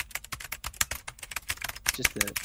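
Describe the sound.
Rapid, furious typing on a computer keyboard, a dense stream of close, sharp key clicks with barely a pause, joined briefly near the end by a murmuring voice.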